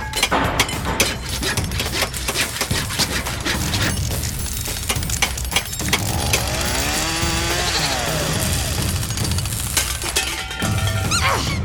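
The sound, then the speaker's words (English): Rapid, loud hammer strikes and metallic clatter mix with the whining, rising and falling drone of a power tool as a human-sized kaleidoscope-like machine is built, a busy stretch of construction noise with no talking. “I need the hammer.”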